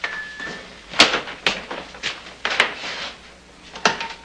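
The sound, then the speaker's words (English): A door opens with a quick series of sharp clunks and rattles from the latch and frame, spread over a few seconds against faint room noise, with no talking, as Connie opens her apartment door. “Later, Connie opens her apartment door, then cowers against the wall, away from Sonny.”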